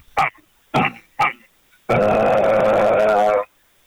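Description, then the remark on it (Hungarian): Someone vocally imitates an idling engine: three short, sputtering grunts, then a loud, steady, buzzy drone held for about a second and a half before cutting off. “hozok nektek egy alapjárati hangot, és utána egy kis gyorsulás”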